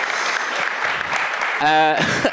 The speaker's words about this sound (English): Good evening, everyone. Hello. Hello. We did get some applause. We did get applause. Hurrah!